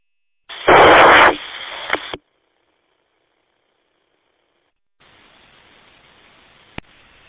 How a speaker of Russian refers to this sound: да, это не вентилятор, это трансивер КВ шумит.